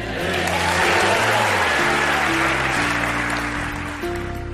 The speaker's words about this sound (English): An enthusiastic crowd responding to Duck Dynasty's Willie Robertson as our featured speaker today on Focus on the Family.